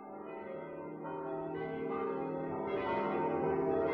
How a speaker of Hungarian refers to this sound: Péntek hajnalban megkondult Dublin valamennyi harangja.